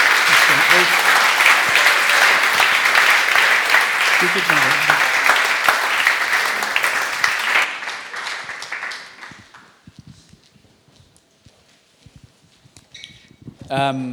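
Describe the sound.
An audience applauds with dense, steady clapping for several seconds, then the applause fades away and a voice speaks briefly over the quiet tail.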